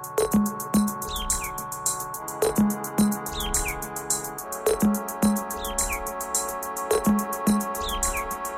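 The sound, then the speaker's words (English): Short, repeated bird chirps ring out over a steady electronic beat with deep bass pulses, the calls woven into the music's regular rhythm and no voices present. “It's an exploration of birdsong, nature, and electronic music.”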